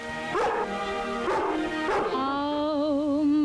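A dog gives three short, evenly spaced barks over a steady tonal hum, then a wavering, whine-like tone carries on to the end. No one speaks.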